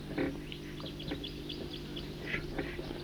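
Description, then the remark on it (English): Wild birds calling in a small hollow along Cataract Creek: scattered short, high chirps and tweets overlap at an irregular pace, moderately loud above a steady low hum. “I'm here along Cataract Creek still, and I'm in a cool little hollow, and the birds are all here.”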